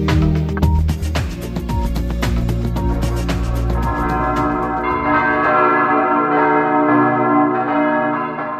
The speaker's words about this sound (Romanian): Pentru cine ia parte la celebrarea pribegherii pascale, sunetul clopotelor în noaptea de Paști nu vine neașteptat. Îl așteaptă încă de la început, din momentul când la ușa bisericii sale parohiale este binecuvântat focul nou